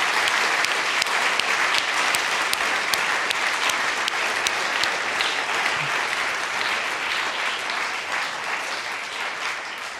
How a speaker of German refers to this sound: Und vielleicht könnt ihr diesem Team ja mal einen Applaus geben als Dankeschön, dass ihr euch dafür einsetzt, dass wir Gott begegnen können.